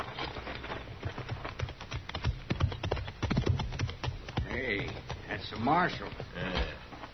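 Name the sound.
horses' hooves clip-clopping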